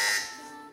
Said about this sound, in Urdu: بہت کلوز جو ہے دونوں نے, بزر بجائیے.